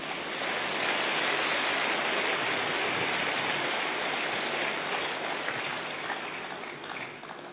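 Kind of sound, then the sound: crowd, audience applause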